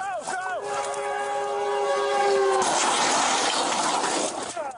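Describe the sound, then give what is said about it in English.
A commuter train's horn blares loudly with a slight pitch bend, then cuts off as the heavy roar of the train barreling through a railroad crossing in Los Angeles rushes by and fades. “Police officers extricated the injured pilot and pulled him to safety seconds before a commuter train barreled through.”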